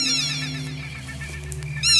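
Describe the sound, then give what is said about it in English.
Black-tailed godwit calling with loud, nasal, rapidly repeated notes at the start, fading briefly, then returning strongly at the end over a steady low background hum. “it's the black-tailed godwit.”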